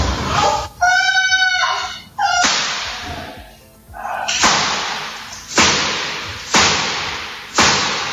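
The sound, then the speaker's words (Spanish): A series of loud, sharp gunshots rings out, about six or seven audible, spaced roughly a second apart, each with a short echoing decay. A brief high-pitched cry sounds near the start. In Mexico, a mother-in-law shoots her daughter-in-law, a Miss Mexico, with twelve shots. “Hombre, porque, madre mía, el momento en el que una suegra asesina a su nuera. Miss México con 12 disparos.”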